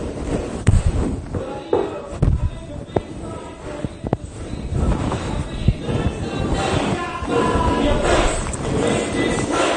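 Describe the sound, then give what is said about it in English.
An audience stomps their feet along with a song as part of the music, heavy, uneven thuds over a dense rumble of noise and voices, with clapping to follow, building louder and busier toward the end. “So they're stomping their feet, then clapping.”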